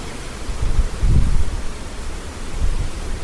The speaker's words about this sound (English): Very windy.